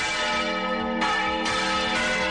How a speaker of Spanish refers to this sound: Para conmemorar sus 800 años, ayer por la tarde se preparaba, a partir de las 5:30, un toque de campanas especial de celebración.